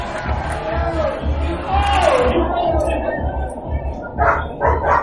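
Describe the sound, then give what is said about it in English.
A crowd cheers and yells on two racers in a pony hop race, hopping on ponies to Southpaw, in a dense, continuous wash of voices, with a few rising and falling shouts standing out over the steady noise. “Let's cheer them on, guys.”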